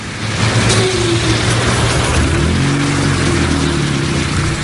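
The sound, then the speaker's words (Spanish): A small Citroën 2CV car engine revs and rumbles, its pitch rising and settling in steady harmonic bands over constant road and mechanical noise, with no one speaking. The car is 46 years old with 83,440 km on it. “Hace unos meses, precisamente, me subí a uno de estos coches, a un 2 caballos,”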